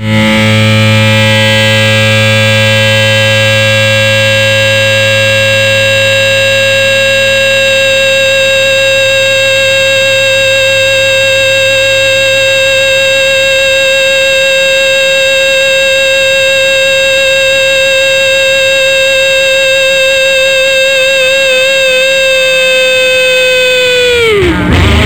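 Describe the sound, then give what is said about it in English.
A loud, distorted emergency broadcast test tone drones steadily for about twenty-four seconds, thick with buzzing harmonics, then sags downward in pitch and cuts off abruptly at the end. “This is a test of the emergency distortion broadcast.”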